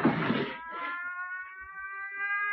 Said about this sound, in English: The police car has turned the corner now. The siren is fading, but the deed is done.